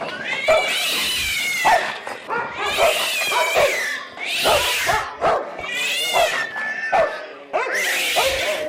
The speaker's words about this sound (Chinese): 呢两盆花啱啱佢摆低两盆花嘅时候，有一只猫同只狗突然间打起嚟啊！